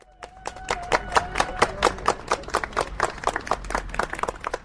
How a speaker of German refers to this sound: Mit Beifall wurden die Redner bedacht, die vor den Demonstranten sprachen.